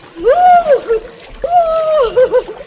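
Water splashes and sloshes as someone turns a somersault in warm water, with two drawn-out vocal cries riding over the splashing.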